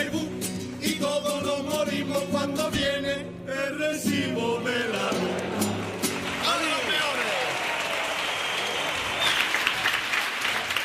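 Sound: audience applause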